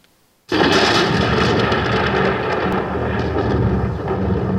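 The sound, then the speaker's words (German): A loud, deep thunder rumble in Schönberg erupts suddenly after a brief silence and keeps roaring steadily and dense, with no voices over it. “Mit diesem Donnern aber ist die Geschichte in Schönberg eben noch nicht zu Ende.”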